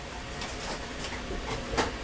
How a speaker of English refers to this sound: Can you hear the kettle boiling now?